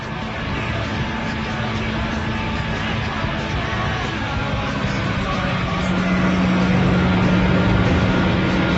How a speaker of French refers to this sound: Le bruit du moteur est aussi assez étonnant en fonction de la bécane que vous avez choisie. Ce sera évidemment pas le même bruit de moteur.